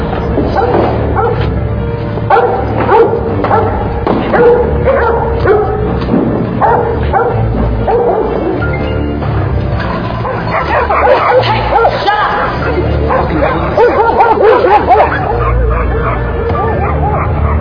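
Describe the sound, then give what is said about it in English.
Several attack dogs bark furiously and nonstop, loud, with overlapping sharp yips and occasional whines filling the whole stretch without a pause. “Around attack dogs.”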